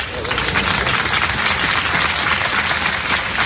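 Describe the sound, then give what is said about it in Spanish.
Sustained applause from a large crowd outside the funeral of Diego Valencia, chaplain of La Palma parish in Algeciras, Spain, officiated by the Bishop of Cádiz and Ceuta; dense and steady throughout, a continuous wash of many hands clapping at a fairly loud, even level with no speech. “Son los aplausos, hace solo unos minutos, a la salida de ese funeral que acaba de oficiar el obispo de Cádiz y Ceuta, Monseñor Rafael Zornoza.”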